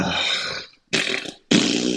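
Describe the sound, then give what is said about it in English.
Three loud, buzzy fart noises in quick succession, each a rough, sputtering blast about half a second long, separated by brief silences with no talking. “Fart noise. Is that it?”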